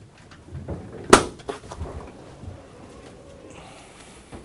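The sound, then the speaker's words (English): Heavy double doors of a concrete-cube acoustic measurement room bang shut with one sharp, loud thud and a softer knock just after, followed by quiet rustling and faint shuffling movement. “Double doors.”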